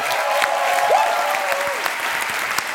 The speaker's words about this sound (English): Let's do one more round of applause for all three finalists.